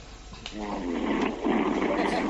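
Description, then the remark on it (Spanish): A caller from Sevilla who has fallen asleep on a phone line to a call-in show snores over the thin, muffled line, two long rasping breaths back to back, steady and fairly loud, with no talking. “Está roncando dejarle, no ha avisado.”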